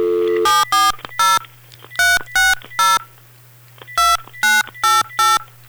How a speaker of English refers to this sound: We pray somebody answers the phone. Well, this one's ringing better than the last one. This is a good sign. Maybe a good sign.